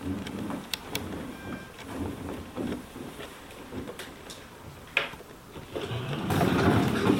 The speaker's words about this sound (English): Oops, you just knocked over my water.